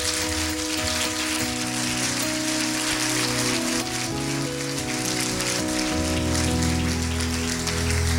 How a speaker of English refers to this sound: So let's clap our hands for the word of the Lord.